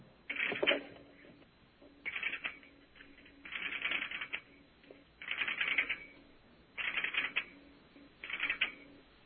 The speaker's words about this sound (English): that's going to be the relays of the marker that are actually switching the call through